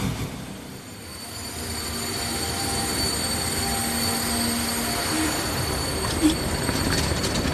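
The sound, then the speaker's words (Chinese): A train rolls steadily through a railway station in Marseille, France, with a continuous rumble and a high metallic whine from the wheels, and a brief clank near the end. No one speaks. “这一天到马赛来找我们，我去火车站接他。”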